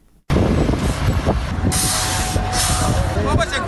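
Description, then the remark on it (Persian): Loud, continuous rumble of giant heavy machinery at work building a large underground market in the center of Charikar, Parwan province, with engine drone, hissing bursts and scraping noise, a few faint voices mixed in beneath the din. “اینجا ماشین های غول‌پیکر در حال کار هستند.”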